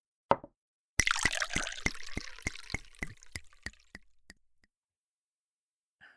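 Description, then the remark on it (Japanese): A short click, then a cocktail is poured for about three seconds with a steady series of glugging pulses that slow and fade as the pour finishes, with no voices. “なあ、いや、じゃあさ、手始めにカクテルでも飲んでみるか。”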